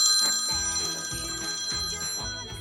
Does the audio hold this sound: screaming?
no